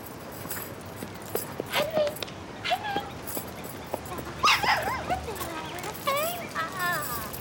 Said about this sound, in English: That Henry is, in fact, a dog